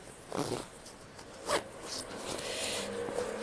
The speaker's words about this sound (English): Get up. I'll zip you back up.